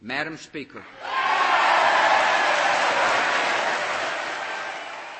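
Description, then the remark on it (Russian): A brief spoken voice gives way to a loud, sustained ovation for the new Speaker of the House, Nancy Pelosi, during President George Bush's State of the Union address: dense, steady applause from a large crowd that swells quickly and holds for several seconds, tapering slightly at the end. “Овации новому спикеру Нижней палаты Конгресса Нэнси Пелоси показали, что искренность первых слов президента была услышана.”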